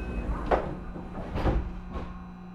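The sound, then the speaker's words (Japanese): The doors of a JR train bound for Kyoto slide shut as it departs. A few quick thuds and rattles sound over a low, steady rumble of the carriage, with no voices. “京都行きが発車します。ドアが閉まります。”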